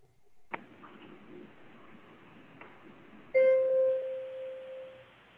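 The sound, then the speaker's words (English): A tuning fork is struck at about 3.4 seconds, setting off a pure, steady ringing tone with faint overtones, sustaining and slowly fading, after two earlier soft clicks over a low background hiss. “That's a tuning fork.”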